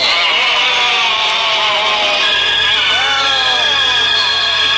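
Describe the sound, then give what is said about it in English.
A crowd reaction sound effect on the radio station Big 79, played after a Thought for the Day joke: a loud, sustained chorus of many overlapping voices with wavering, sliding pitches, like a mass groan, filling about five seconds without pause. “Notice the crowd reaction to another heavyweight Thought for the Day on the Big 79.”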